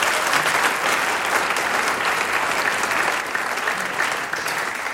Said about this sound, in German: Und die beiden haben sich jetzt noch einmal einen extra Applaus verdient. Vielen Dank.